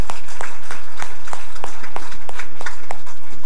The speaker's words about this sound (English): Lakeshore Middle School football team is in the house with us today. Everybody give them a welcoming applause.